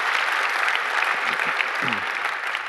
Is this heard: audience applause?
yes